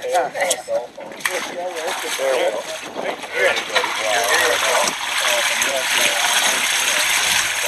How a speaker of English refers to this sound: Now the water is flowing from the uphill side to the downhill side.